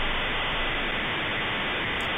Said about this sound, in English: Ma'am, can you turn off your 56K modem, please? I can barely hear you.